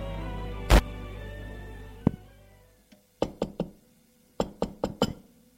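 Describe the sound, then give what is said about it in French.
Knocking on a bedroom door in two quick bursts of three and four raps, sharp and fairly loud, following a low droning hum that cuts off after an earlier thud; no voices. “Elle va frapper à sa porte.”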